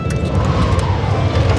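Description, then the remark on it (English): A car engine rumbles steadily, heard from the back seat of a moving car, a dense, low droning hum with road noise that holds at an even loudness throughout, with no voices. “An hour later, we sat terrified in the back of Ailish's car with Morris and Judy up front.”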